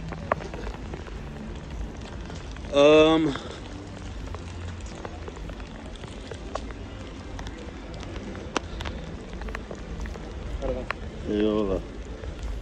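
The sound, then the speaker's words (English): Rain falls in Merida in a steady hiss with scattered sharp drop ticks, a short burst of someone's voice rising twice over the downpour. “So as you guys can see, man, this is pretty much, oh shit, is it raining?”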